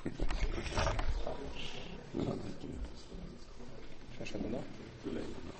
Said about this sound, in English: We're talking about, as a matter of fact, there's a lion at the door. Better shut.